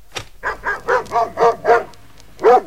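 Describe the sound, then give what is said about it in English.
A dog barks in a quick run of about six even barks, pauses briefly, then lets out one more bark; no voices are heard. “It was raining cats and dogs.”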